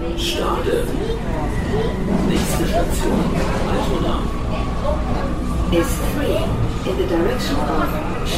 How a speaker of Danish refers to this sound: Vi er lige på et S-togstop, et enkelt stop før Ræberbaren, og vi lige kunne høre i udkanten, det er at sydenladende en stor gruppe af det, der formentlig er enten Hertha eller HSV-fans, og småt begiver sig ned af trappen.